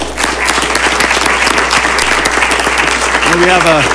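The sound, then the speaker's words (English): A crowd claps steadily throughout, a dense, sustained round of applause at a city meeting in Mesa recognizing a young man for his Eagle project, with a voice briefly rising over it near the end. “So give him a round of applause.”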